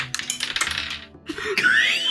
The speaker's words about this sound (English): You hear caltrops drop everywhere. I've done that today. That's what you hear. You hear clattering.